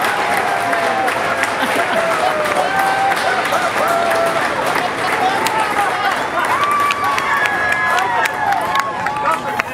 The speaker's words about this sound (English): And the applause is both here and there as they begin to, there they are, exiting the capsule.